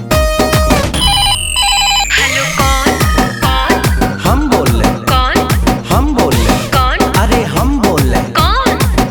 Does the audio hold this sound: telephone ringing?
yes